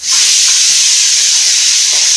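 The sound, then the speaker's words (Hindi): A pressure cooker whistle lets off steam in a loud, steady hiss that holds at an even level for a couple of seconds, with no voices, while khichdi of rice, dal and vegetables cooks in the closed cooker. “और फिर बंद कर दिया कुकर, और कुछ देर में बजेगी सीटी।”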